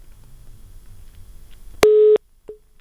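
After a low murmur of line noise, a phone line drops with a sharp click into a loud, steady electronic tone lasting about a third of a second, followed by one short faint beep.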